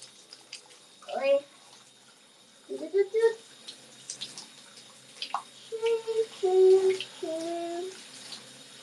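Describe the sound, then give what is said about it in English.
Hot water splashes and sloshes in short, uneven bursts as someone rinses and shaves at a basin, with a few brief, murmured vocal sounds mixed in. “Alright, I think I am properly doused in the hot water, so I'm gonna shave.”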